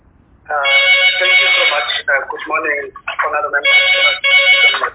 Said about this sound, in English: Oh, okay. There was a phone which was ringing in the background. It's off now. Sorry, it was my phone. Sorry about that, Chair. I just took it off now. It's my phone.